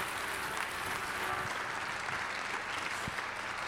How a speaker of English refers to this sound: Clap your hands for Jesus and give God the praise.